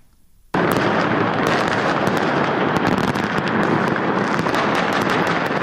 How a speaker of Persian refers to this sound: آتشبازی در میدان اموی در مرکز دمشق در لحظه تحویل سال 2025، شادی سوری ها در اولین تحویل سال نو پس از سقوط رژیم اسد نمونه ای از امیدواری هایی بود که مردم سراسر جهان برای سال جدید داشتند.